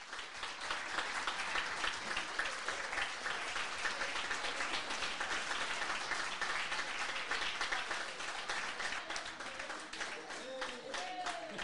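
Sustained audience applause, a dense, steady wash of many hands clapping at once, holding an even loudness for the whole stretch with no talking over it.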